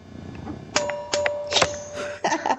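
Glasses clink together in a toast, several bright bell-like chimes in quick succession with one tone ringing on, clear with no talking.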